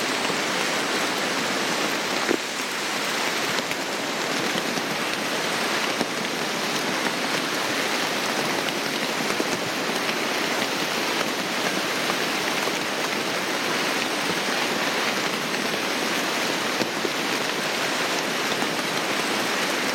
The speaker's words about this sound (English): And hear the sound of rain falling in the Amazon.